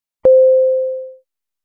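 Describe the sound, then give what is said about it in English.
A single clear chime separating words in a vocabulary lesson: a sharp struck onset followed by a steady mid-pitched tone that slowly fades out over about a second, with silence before and after. “Each word is separated by the chime sound.”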